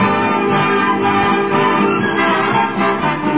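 A full orchestra plays a bright, steady introduction, loud and close, with layered brass and strings sounding continuously and no voices, like the lead-in to a song.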